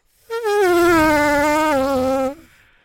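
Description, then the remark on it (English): A voice imitates a Formula One racing car with one loud, sustained, buzzy high whine lasting about two seconds, its pitch sliding gently downward before cutting off abruptly. “To hear racing cars, Formula One racing cars. Well, go on, do it.”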